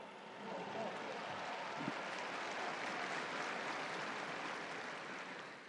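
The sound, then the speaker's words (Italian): A crowd applauds the firefighters steadily for several seconds, a dense, continuous wash of many hands clapping at once that holds an even level before easing slightly at the end. “Un applauso ai vigili del fuoco.”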